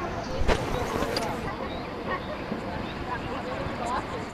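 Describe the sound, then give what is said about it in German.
Bathers at a swimming area on the shore of a lake in the Mittelland, with the sun low: a soft wash of voices and splashing, steady and diffuse across the whole stretch, with a few brief louder bursts near the start. “Und die Badi am Ufer hört man auch.”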